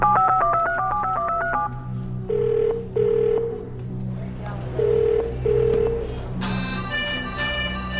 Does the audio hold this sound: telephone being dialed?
yes